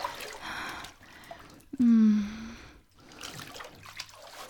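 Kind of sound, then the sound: nature, flowing water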